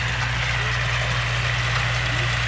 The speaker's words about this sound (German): Wenn nämlich der grosse Traktor mit der Mähmaschine kommt, springt das Reh nicht weg, weil es die Gefahr sieht, sondern es macht sich im Gegenteil einfach noch kleiner und so kommt es unter die Mähmaschine.